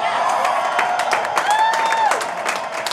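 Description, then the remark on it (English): A large crowd at a Donald Trump speech at a convention in Colorado roars and cheers steadily, with scattered whoops and sharp claps cutting through, and a few high rising and falling shouts standing out above the dense, loud din. “The crowd listened intently to Trump's speech, erupting occasionally into familiar chants.”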